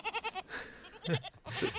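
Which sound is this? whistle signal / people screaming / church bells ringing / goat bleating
goat bleating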